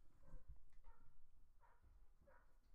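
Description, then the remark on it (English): Several dogs barking in short, repeated bursts, roughly four yaps spread evenly over a few seconds, fairly faint, with no one speaking. “Man, I don't know what all these dogs are doing, but son, we're going to get it handled.”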